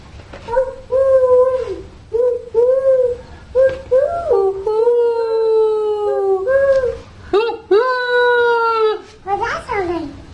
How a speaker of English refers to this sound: Kind of like a wolf or a dog howling at the moon.